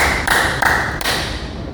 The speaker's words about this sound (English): why do I clap three times in the hands? The dramatic effect comes now.